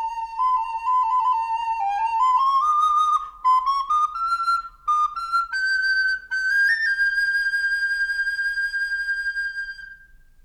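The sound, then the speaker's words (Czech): A wooden recorder plays a simple melody alone, clear, its breathy notes stepping upward through the phrase before settling on a long held tone that fades out. “Dřevěná píšťalka v naší dlani je plná tónů bez ustání.”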